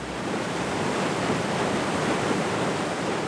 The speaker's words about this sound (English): The waterfall is over 80 feet tall, or about 8 average-sized dolphins, from nose to tail fin.